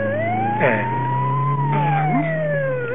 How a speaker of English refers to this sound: You know, that's the fourth ambulance in the last half hour.